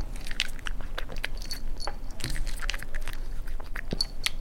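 Wet lapping and smacking as a dog gobbles hard treats it found on a table without chewing them, a quick irregular run of soft clicky mouth sounds with no clear crunching, and no voices.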